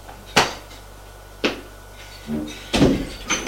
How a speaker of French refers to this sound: La bonne ouvre une porte et dit « Votre chambre, madame. »